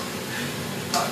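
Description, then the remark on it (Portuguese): Bacon sizzles steadily in a frying pan, a dense crackle and hiss that flares briefly brighter near the end, with no one talking. “O bacon, mano.”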